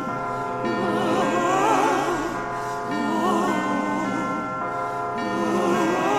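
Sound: ringing bells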